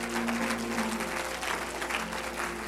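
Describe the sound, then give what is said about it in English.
A church audience bursts into steady, dense applause, many hands clapping together at once, loudly, with a sustained low musical tone humming underneath. The clapping is a hand clap of praise to the Lord Jesus. “Let's give the Lord Jesus a great big hand clap of praise.”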